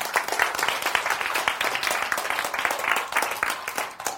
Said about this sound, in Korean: 박수!